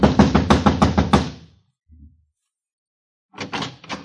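A rapid series of about eight firm, loud knocks on the wooden door of apartment number 4, the manager's apartment, at 4 in the morning, then a pause with a faint thump before another short burst of knocking.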